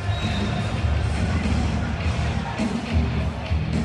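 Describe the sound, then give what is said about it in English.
A dense, steady roar of crowd noise with cheering and scattered shouts, loud and continuous throughout, at an indoor lacrosse game. “has opted for a somewhat more raucous venue.”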